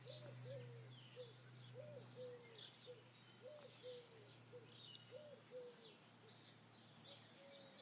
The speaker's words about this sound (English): That's another one calling. The wood pigeon or whatever it is.